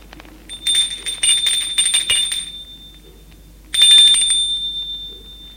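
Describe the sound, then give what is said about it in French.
At 9 pm, Xavier rings the doorbell at Bonnard's apartment: a long, shrill, rattling electric ring of about two seconds, a pause, then a shorter second ring. The high-pitched tone is loud, and no one speaks. “21h, Xavier va sonner chez Bonnard.”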